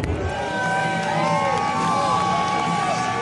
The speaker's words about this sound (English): The crowd support couldn't have been better. To hear those loud roars pregame, you know, when the stadium is usually a little quiet, I know that that was a special moment for a lot of those on the field to really feel the appreciation